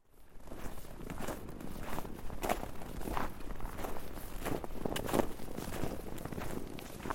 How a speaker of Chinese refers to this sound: 树林里静悄悄的，一点声音也没有，脚步声清晰可闻。林间小路两旁的树木形成了隔音墙，林中更是静谧。